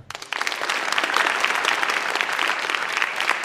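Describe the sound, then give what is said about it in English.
An audience of UNC students bursts into loud, sustained applause to vote, dense overlapping claps filling the whole clip at a steady, high level with no voices standing out. “And all right, now, deafening applause.”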